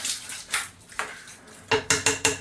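Washed lentils, small hard grains, rattle and patter into a metal cooking pot in a few short pours, ending in a quick run of loud clattering bursts. No one speaks.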